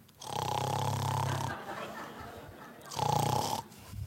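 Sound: imitated snoring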